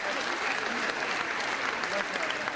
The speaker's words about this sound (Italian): Un applauso anche all'ANSA e a tutte le scuole che partecipano.